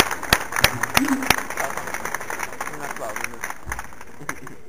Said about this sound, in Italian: Facciamo un applauso. Esagerato.